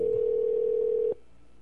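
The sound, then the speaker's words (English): An outgoing call's ringing tone as a call is placed back to a caller: a single steady electronic hum lasts about a second, clear, then cuts off abruptly into near silence. No one speaks. “We're going to call you back on this show. Pick up the phone,”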